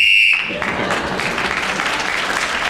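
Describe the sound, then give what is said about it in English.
A short, shrill whistle blast, blown by Ian Messiter in a radio panel game to signal that 60 seconds are up, sounds alone for a moment, then stops abruptly as loud, sustained applause breaks out and continues steadily. “Those of you who know the game well know that the whistle, which is blown by Ian Messiter, tells us 60 seconds is up, and whoever is speaking at that moment gains an extra point.”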